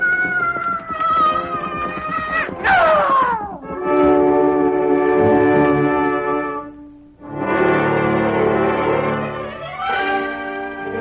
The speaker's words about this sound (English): Sighting the red man below, the bird gave a hoarse cry.